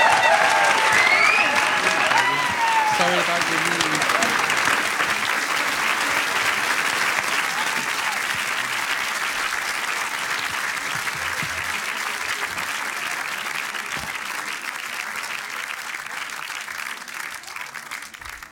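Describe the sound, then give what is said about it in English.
Sustained applause from a large audience for a performer after a song, a dense steady clatter of clapping that slowly tapers, with a brief spoken remark and a few whistles early on. “Round of applause”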